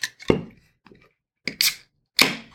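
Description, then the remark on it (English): A beer can's pop top is cracked open: a few sharp metallic clicks and snaps, with short, bright bursts of fizzy hiss, separated by brief silences and no talking. “All right, so let's go ahead and open this beer.”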